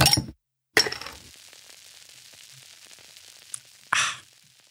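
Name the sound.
beer glasses clinking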